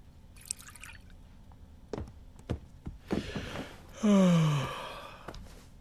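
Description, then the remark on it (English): A few distinct drips land, followed by a short, gurgling rush of water poured from a flask into a bowl in front of an electric fire, ending with a brief tonal, sigh-like sound. “Fred fills the bowl with water from his flask, then sits down in a chair.”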